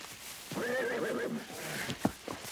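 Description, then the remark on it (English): An alarmed horse lets out a loud, wavering whinny lasting about a second and a half, followed by a couple of short snorts or thumps, agitated, with no voices. “The horses are alarmed.”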